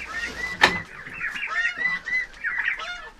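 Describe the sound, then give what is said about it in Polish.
Recently hatched guineafowl calling, a steady stream of harsh, scratchy cries overlapping one another, with one sharp knock near the start and no voices. “No, kto to jest? Na tylice. Perlice. Powiedz perlice porządnie.”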